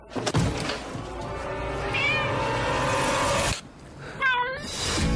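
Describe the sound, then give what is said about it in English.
A ginger cat called Bob in a film meows loudly: a long, drawn-out wavering yowl lasting several seconds, then a brief pause and a shorter, rising meow. “He's homeless and he's really struggling through life until he finds this ginger cat called Bob, who basically saves him.”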